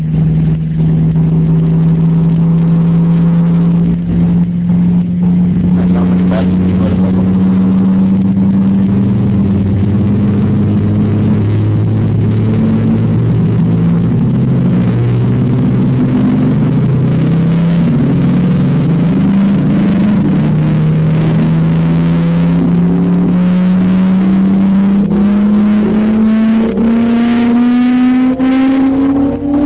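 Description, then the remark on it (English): A loud, buzzy sonified tone from a physics simulation with rescaled masses drones for about half a minute, its pitch wavering and beating at first, a modulation caused by the theta and phi motions being incommensurate, then gliding steadily upward toward the end. No voices. “Okay, in the beginning here, you can hear modulation, which is due to the theta and the phi motions being incommensurate with one another.”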